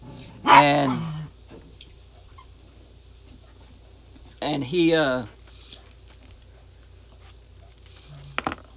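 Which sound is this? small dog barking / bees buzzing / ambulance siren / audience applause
small dog barking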